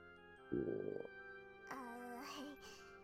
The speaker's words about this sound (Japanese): 確かに腹の虫が騒いでならぬ。